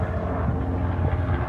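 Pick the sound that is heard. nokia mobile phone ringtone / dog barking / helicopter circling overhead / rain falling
helicopter circling overhead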